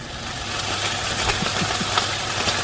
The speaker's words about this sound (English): You heard the internet rumor that the sound of falling rain is actually the sound of fried chicken? Yes. Should we get to the bottom of that rumor?